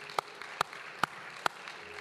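A church audience claps hands to the Lord in a steady unison rhythm, four sharp, even claps about half a second apart over a soft, murmuring background.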